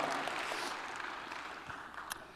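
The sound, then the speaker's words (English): Scattered applause from a small crowd at a first service, responding to a mention of The Lord of the Rings series, a dense patter of hand claps that stays steady and fairly quiet throughout, slowly thinning out toward the end. “Now, apparently there's more nerds in first service because they actually clapped when this came when I said that.”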